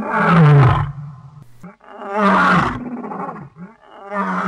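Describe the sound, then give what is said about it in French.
A lion roars loudly, two long, deep, rumbling roars separated by a short pause, with a third beginning just as the sound ends. No voices are heard. “Nous voilà donc partis à la découverte d'un animal fascinant, qui pourtant nous est si familier qu'on imagine mal ce qu'il pourrait encore nous révéler dans la nature.”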